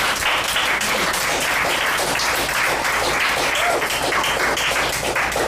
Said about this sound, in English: And I know you're probably sick of hearing the clapping, but you all deserve it. We've heard some wonderful readings tonight in this first half. Let's give everybody another.